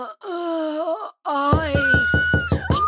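A ghostly wailing moan carries throughout a séance, and halfway through a quick, steady run of about seven firm, loud knocks on a door sounds beneath it.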